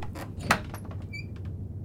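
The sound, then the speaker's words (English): A door off a hallway creaks open with a brief high squeak of its hinges, preceded by a soft knock or thump. “We're the last on the left, so it's one of these other doors.”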